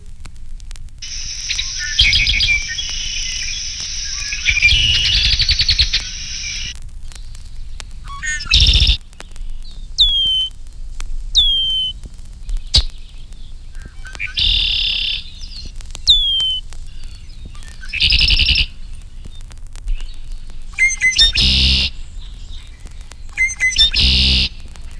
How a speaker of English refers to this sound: These red-winged blackbirds give other calls in addition to the familiar conk-a-ree.